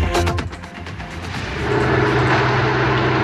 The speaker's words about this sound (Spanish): Eso que usted escucha son los carros de bomberos. Los carros que están conectados a los grifos.